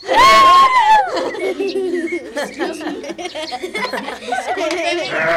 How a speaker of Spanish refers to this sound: Wilfrido, ten cuidado con esas cabras. Mira que son de Doña María.